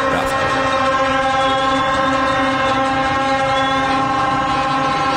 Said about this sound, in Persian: گفتم یارو صدای منو شنیدا، دیدی که گفت ای وای بازیکن‌ها اومدن و صدای بوق و جیغ جمعیت.